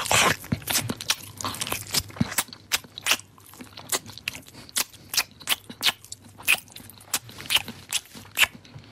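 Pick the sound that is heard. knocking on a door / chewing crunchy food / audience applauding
chewing crunchy food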